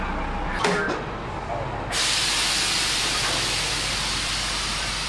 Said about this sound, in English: Here comes a bus right now. Let's go over there and take a look at it.